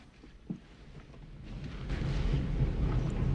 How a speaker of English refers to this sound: What's that? What's what? Sounds like a train. Uh-uh. These lines have been abandoned for 50 years. They take a few more tentative steps forward. Probably in one of the tunnels above us.